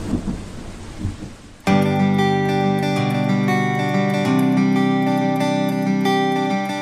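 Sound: heavy rain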